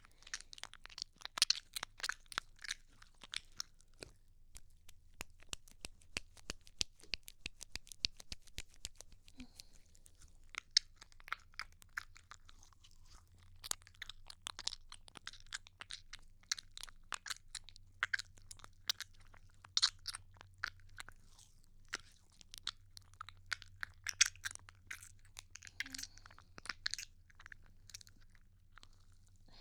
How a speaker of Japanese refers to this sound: ローションが泡立ってる。